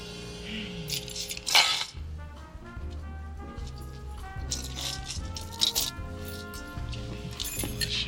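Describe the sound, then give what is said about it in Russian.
Keys rattle and jingle in short metallic bursts over steady background music with a low bass line; no one speaks. “Это ваши ключи.”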